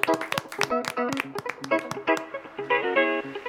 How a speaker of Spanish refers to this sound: Sabandijas, dadle las gracias y este aplauso es para ti